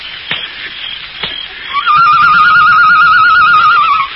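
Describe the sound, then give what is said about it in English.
After a couple of soft clicks over background hiss, someone gives a long, loud warbling whistle, a steady trilling tone held for about two seconds in imitation of a bird call. “Did you make that noise? Yes. Sounded like a bird.”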